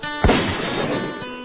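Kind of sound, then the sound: impact, gunshots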